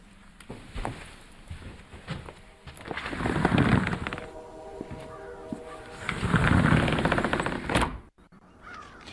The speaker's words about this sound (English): Well, we hear the train going off into the distance. We can hear some birds, of course. We can hear some traffic noise from Highway 7, quite distant. The most interesting thing, of course, is the birds at this time of the day.